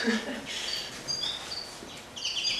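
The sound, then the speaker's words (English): Two chimney swift fledglings flying around the Bird Center of Washtenaw County on Mary Street give thin, high-pitched chittering calls in quick bursts, with a run of twittering near the end. A faint low murmur sits under the opening. “Two chimney swift fledglings are flying around the bird center.”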